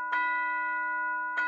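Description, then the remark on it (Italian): The town square clock bell strikes the hour, eleven at night, at Christmas with snow falling: one bright metallic clang, its rich ringing tone sustaining evenly for over a second before a second strike begins. No voices are heard. “Poi le 11 di sera.”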